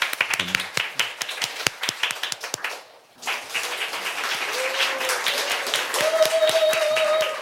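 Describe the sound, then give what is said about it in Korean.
A large audience at a public radio broadcast humanities concert claps steadily to welcome a guest singer, a dense patter of many hands that briefly drops away before swelling back up, with faint tones emerging beneath the applause near the end. “박수로 청해 듣죠.”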